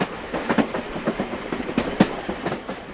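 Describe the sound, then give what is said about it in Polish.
A passenger train from Plymouth rolls along the rails, its wheels clattering in a steady clickety-clack rhythm with sharp metallic knocks over a continuous rumbling hiss, moderately loud, with no voices. “jechał pociągiem osobowym z Plymouth.”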